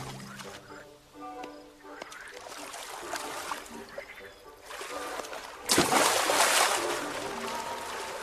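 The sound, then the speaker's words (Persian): Gentle water sloshing and trickling as a seagull paddles its feet along the surface while swimming, with a louder splashy burst partway through and a steady, churning wash afterward. “آب بخشی از زندگی مرغ‌های دریاییه. پس درس امروز شنا کردنه.”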